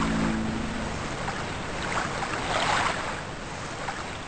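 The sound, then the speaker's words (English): Steady rushing and splashing water around a moving boat, with a low hum at the start and a louder surge of waves about midway. No voices. “Now that this little adventure is over, how would you like to take the boat out again”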